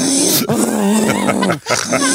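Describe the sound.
A voice imitates a man's loud snoring: three raspy, throaty snorts with a steady low buzz and a gritty, pig-like texture, separated by brief breaks.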